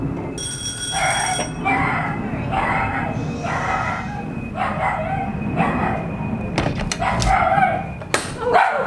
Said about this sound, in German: Yeah, sorry about the noise of the dog.